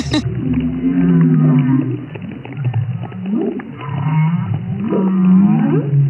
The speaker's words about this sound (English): Particularly humpback whales, they sing very loudly and for a long period of time. So once you have lots and lots of humpback whales calling at the same time, you're not able to hear the fish.